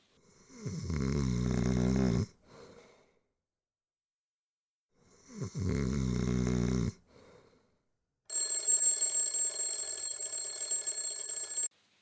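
Two long, deep snores rumble, one after the other with a pause between, then an alarm clock bursts into a loud, steady metallic ringing for several seconds before cutting off.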